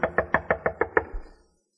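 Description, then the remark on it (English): Seven quick, evenly spaced, firm knocks on the wooden door of the home of Rollo Bendata, a servant, followed by a soft low thump and silence. No voices. “I knocked hopefully on his door.”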